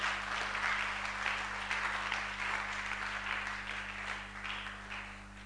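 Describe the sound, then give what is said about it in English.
Steady, dense applause from a crowd, many hands clapping at once in a continuous wash of sound for several seconds, with a low constant hum underneath and no voices. “Somebody is not clapping.”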